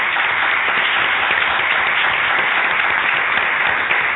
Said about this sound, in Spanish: Y gracias a todos, y yo diría que vamos a darnos un aplauso, ¿eh? Porque nos lo merecemos.